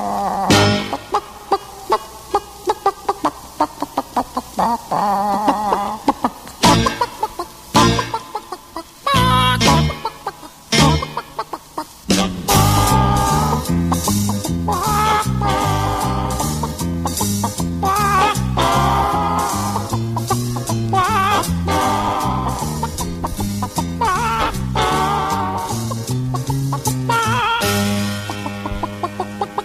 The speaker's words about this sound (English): The sound of cackling chickens